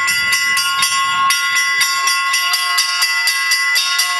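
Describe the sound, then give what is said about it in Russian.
Church bells ring a rapid, steady chime, struck about four times a second with overlapping ringing tones. The bells are loud, with no voices. “Потому что колокольный перезвон – это процесс очищения воздуха вокруг.”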